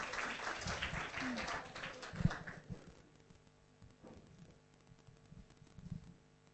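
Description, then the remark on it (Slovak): A burst of group applause celebrates a gift. It is dense and crackling, lasts about three seconds, then fades into quieter murmuring and a few soft scattered sounds. “Máme, tak zatleskáme.”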